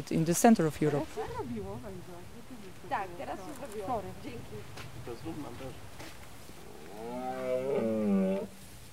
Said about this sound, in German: An diesem Abend haben die Gäste Glück. Die Rothirsche lassen sich blicken. Ihre Brunftrufe sind kilometerweit zu hören, bis hinein in die umliegenden Dörfer. Für die Einwohnerinnen und Einwohner ist das Spektakel nichts Besonderes.